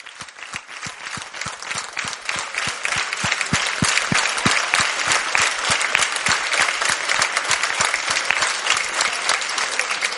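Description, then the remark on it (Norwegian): A large audience applauds steadily, a dense wash of many hands clapping, sustained and loud throughout with no pause or voices standing out. “Stor applaus, stor applaus.”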